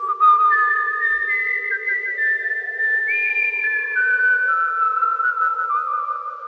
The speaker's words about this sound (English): My tune, my favourite tune. The one that goes like this, said Jason, and he whistled.